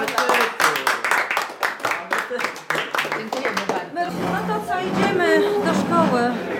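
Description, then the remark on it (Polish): A small group claps quickly and unevenly for a few seconds, then the clapping fades as excited voices and overlapping chatter fill the rest. “Jesteście mistrzami, więc dziękujemy brawo bardzo.”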